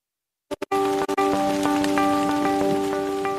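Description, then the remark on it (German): Steady, heavy rain pours down in a forest after a couple of brief bursts, a dense hiss with scattered drops, while a soft sustained musical tone runs quietly underneath. “Wenn es im Wald in Strömen regnet, veranstalten viele Bäume ein wahres Saufgelage.”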